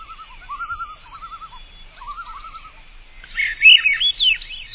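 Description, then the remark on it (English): A white-throated sparrow and a Swainson's thrush singing outdoors in spruce and poplar forest: the sparrow's long, clear high whistles and warbling lower phrases, then a louder burst of the thrush's fluty, upward-spiraling notes near the end. No voices. “Ah, there's the fluty harmonics of the Swainson's thrush. The long, clear whistles of the white-throated sparrow.”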